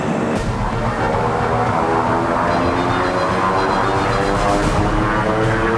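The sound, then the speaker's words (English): Twin-propeller plane roaring as it accelerates down a runway for takeoff, the pilot pushing the throttle forward, a loud, steady engine drone with layered harmonic hum and rising intensity, continuous with no voices. “The twin-propelled plane accelerates down the runway.”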